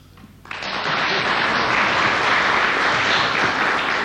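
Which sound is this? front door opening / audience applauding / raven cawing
audience applauding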